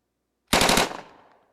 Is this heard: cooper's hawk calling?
no